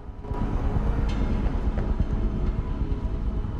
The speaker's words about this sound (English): A tram moves along a track on a road.